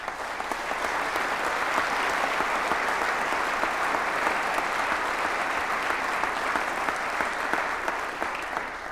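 An audience applauds a volunteer guardian's service, a sustained, dense, steady patter of many hands clapping at an even loudness for the full nine seconds, with no voices rising above it.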